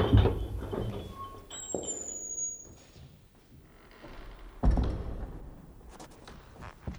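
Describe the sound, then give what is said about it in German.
A heavy church door creaks open with a faint, high squeal of its hinge, framed by dull thuds and shuffling in a quiet, echoing church. “Doch zu ihrem Erstaunen ließ sich die Tür mit einem leisen Quietschen öffnen.”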